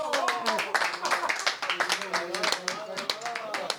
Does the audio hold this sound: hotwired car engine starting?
no